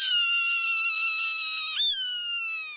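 A Swainson's hawk on the western high plains gives a long, drawn-out raspy scream, loud, holding a steady high pitch with a brief catch before trailing on. No voices are heard.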